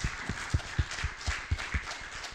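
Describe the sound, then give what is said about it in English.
An audience applauds the mothers, who have been asked to stand up: a dense, steady wash of clapping with soft regular thumps pulsing underneath, fairly quiet overall with no voices. “If we could have all the mothers stand up, I'd like everyone to give them applause.”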